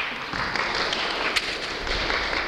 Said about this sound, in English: Well done. Very good. Okay, sit down. Round of applause.